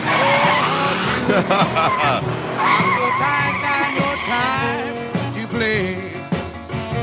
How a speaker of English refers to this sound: That car sound in the middle of this. I want to hear it again.